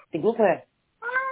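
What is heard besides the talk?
cat meowing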